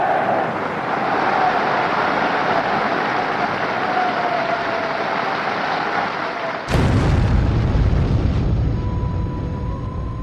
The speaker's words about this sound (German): Die Explosion verwüstet den Saal. 7 Parteimitglieder und eine Kellnerin sterben. 63 Personen werden verletzt, davon 15 schwer. Das Geräusch ist selbst für die Radiohörer, die der Berichterstattung über den Äther folgen, deutlich zu vernehmen.